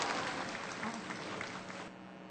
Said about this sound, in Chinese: 首先呢，我们欢迎台湾永续能源研究基金会董事长简佑新博士。简佑新博士呢，他是前外交部长、交通部长，也是我们首任的环保署长。我们热情掌声欢迎简佑新董事长。